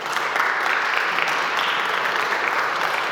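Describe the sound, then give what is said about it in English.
A crowd applauds steadily, many hands clapping at once in a dense, continuous wash of sound that stays loud and even throughout, with no voices standing out. “And can you clap, maybe applaud, if you grew because of your time in the wilderness?”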